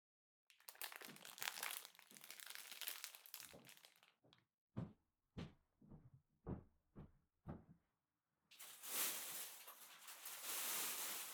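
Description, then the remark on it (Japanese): Crinkling of an eaten ice cream bar's wrapper being crumpled up to be thrown away: a few seconds of steady rustling, then about seven sharp separate crunches, followed by more dense crinkling. No one speaks. “残った棒と包み紙もらえますか？捨てちゃいますから。”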